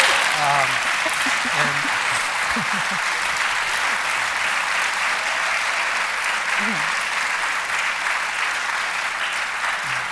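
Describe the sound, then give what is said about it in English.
An evening audience at a conversation event claps steadily for about ten seconds, a dense, even wash of applause with a few faint voices murmuring underneath. “That's a cue for you to applaud if you actually think about it.”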